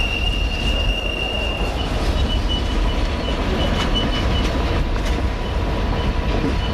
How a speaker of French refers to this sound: Les retardataires embarquent en seconde ou en première classe, le train s'ébranle et emmène les 500 passagers direction Ouagadougou.